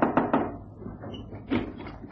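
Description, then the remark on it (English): An unlatched front door opens as Lestrade arrives in a Sherlock Holmes drama, with a quick series of wooden bumps and rattles, then a second dull thud about a second later, with no voices. “So that's why our front door is unlatched.”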